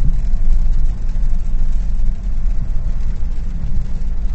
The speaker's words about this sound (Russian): Сегодня веду свой репортаж прямо из машины. Вот послушайте, шум, а тут еще и дождь, и дворники работают.